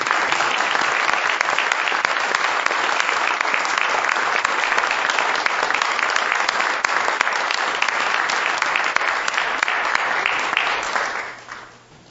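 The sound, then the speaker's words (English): A crowd claps steadily in a dense, sustained round of applause lasting about eleven seconds, loud and even throughout before fading out quickly at the end, during a Senate floor session. No one speaks over it. “And I think you deserve a round of applause from us all.”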